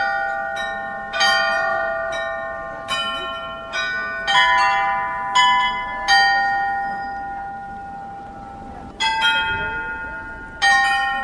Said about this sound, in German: Das Glockenspiel spielt nur einmal am Tag, also immer Punkt mittags. Und es werden 3 hanakische Volkslieder vorgespielt und am Ende kräht der Hahn.